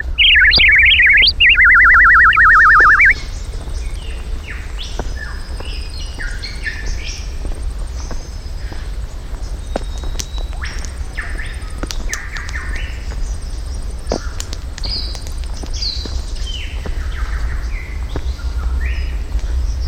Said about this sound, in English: Look, there's a bird's nest at the top of that tree. There are some funny birds in these woods.